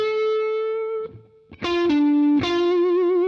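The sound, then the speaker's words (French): Distorted electric guitar playing a sustained note, then fresh picked notes whose pitch is bent upward and held with a wavering vibrato, the bend at the end of the first bar of a lesson passage, loud and alone with no talking. “Alors à la fin de la première mesure, c'est ce plan-là, le bend.”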